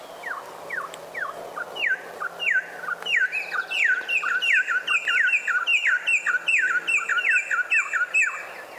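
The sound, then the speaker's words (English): Venezuelan troupials, a male and female pair, singing a duet: the male begins with clear, downward-sliding whistled notes, then the female joins, their loud repeated phrases overlapping in a dense, rhythmic back-and-forth with no talking. “That's a Venezuelan troupial, and the male begins, and the female is then joining in.”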